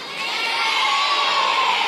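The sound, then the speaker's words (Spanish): A crowd of children in the audience at a talk shouts and cheers together, a loud, sustained burst of high-pitched voices that swells slightly and holds steady for a couple of seconds. “Eu antes vos escoitaba berrar con máis ganas.”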